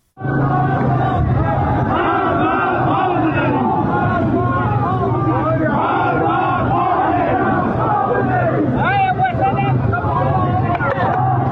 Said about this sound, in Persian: روز شنبه همچنین در ملکشاهی ایلام معترضان فریاد مرگ بر خامنه‌ای سر دادند.